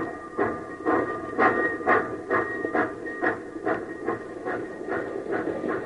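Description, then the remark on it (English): A steam locomotive chugs steadily along, chasing runaway train cars to couple on again, its rhythmic exhaust puffs repeating about twice a second over a continuous hiss and rumbling rail noise, with a faint steady whistle-like tone running through. “Come on, you old iron horse. Run!”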